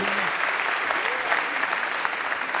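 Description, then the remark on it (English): Steady, dense applause from an audience, a continuous wash of many hands clapping at once with no breaks, loud and even throughout, with a faint voice tone briefly audible underneath. “Yeah, you can go ahead and clap.”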